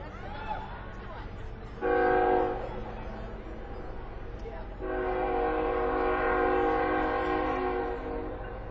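A passing train sounds its horn, one short blast followed by a long, sustained one, ringing out over a steady low rumble, with faint voices early on.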